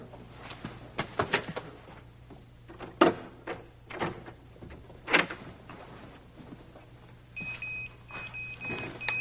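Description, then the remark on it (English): A series of sharp mechanical clicks and clunks, like a lock and handle being worked, followed by a door thudding open, with a faint electronic beeping tone toward the end. “unlock this door this minute!”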